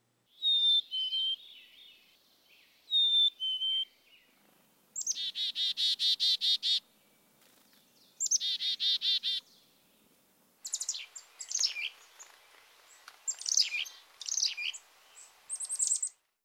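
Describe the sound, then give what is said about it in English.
A black-capped chickadee sings clear, high two-note whistles, the first note higher than the second, then gives rapid buzzy chick-a-dee-dee calls and scratchy chatter, with no other sounds. “The black-capped chickadee's song is a high-pitched whistle on two notes, the first one higher than the second.”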